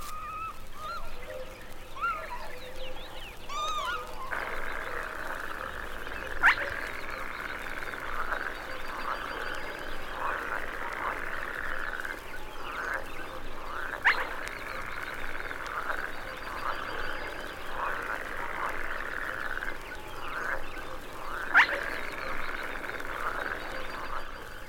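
A dense chorus of frogs croaking steadily in a marsh, with three sharp, clipped whistles of a spotted crake cutting through at roughly even intervals. No voices.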